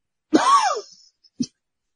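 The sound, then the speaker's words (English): A man gives a drawn-out, groaning cough that rises and falls in pitch, then a brief pause and one short, sharp cough, with no talking. “can you hear him trying to get all the attention with that silly coughing he's doing?”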